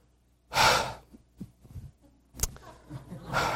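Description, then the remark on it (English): Heavy breathing: a loud, rushing breath at the start and another at the end, with softer huffs and a sharp catch of air in between. “I'm still thinking about FedEx and breathing hard.”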